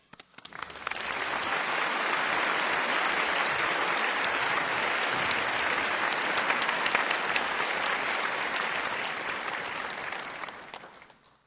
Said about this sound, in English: Ladies and gentlemen, let's welcome Supreme Master Ching Hai with warm applause.